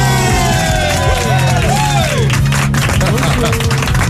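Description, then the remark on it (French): A crowd applauds loudly for Miss France 2014, with dense, continuous clapping, while whoops and rising cheers ring out over the top throughout. “Applaudissements, les amis, pour Miss France 2014.”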